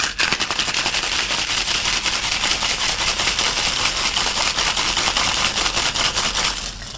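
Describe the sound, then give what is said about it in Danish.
A Papa Doble cocktail of cane sugar syrup, fresh lime juice and maraschino liqueur is shaken hard in a cocktail shaker, ice rattling in a fast, steady, loud clatter of sharp clicks that runs for about seven seconds before stopping abruptly. “Og så skal den have et heart shake.”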